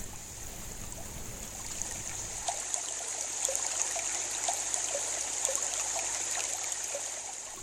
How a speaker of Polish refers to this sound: W oddali przed nimi pojawił się wodospad Skok.